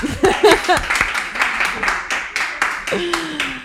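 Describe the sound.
An audience claps steadily, a dense patter of sharp hand claps that keeps going the whole time. Voices and laughter break in at the start, and another voice comes in near the end.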